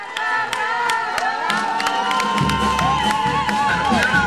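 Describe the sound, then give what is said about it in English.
A crowd at the rodeo arena in Camargo cheers steadily, a dense roar of shouts and high whoops with sharp claps and whistles scattered through, staying loud for the whole few seconds. “Outside Camargo's rodeo arena, Mayor Genaro Solís González sits on the bed of his red pickup truck.”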